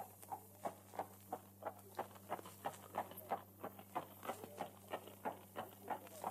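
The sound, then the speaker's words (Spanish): Steady horse hooves clip-clopping at a walking pace as a rider sets off out of a town, a regular run of sharp knocks over a faint low hum, heard alone with no talking. “Recogió su caballo, que estaba atado en uno de los postes a la entrada de la taberna, y se dispuso a salir del pueblo.”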